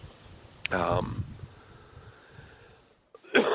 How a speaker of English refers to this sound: excuse me, cough is still there a little bit, but not too bad.